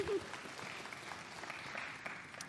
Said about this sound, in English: Amen. You can clap. I'm clapping. Woo-hoo.